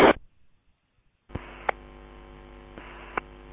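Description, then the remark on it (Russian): After a short burst and near silence, a radio channel abruptly opens into a steady band-limited hiss with an underlying hum, punctuated by two sharp clicks. No one speaks over the open carrier. “Ну, включение слышу, пытаюсь здесь, видимо, включить микрофон, но ничто не получается пока.”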